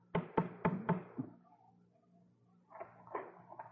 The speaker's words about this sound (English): And then I heard it, the tapping on my front door.